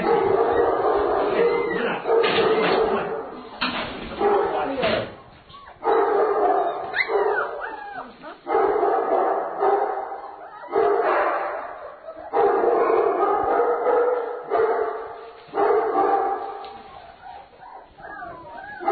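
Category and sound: animal, puppies yipping and barking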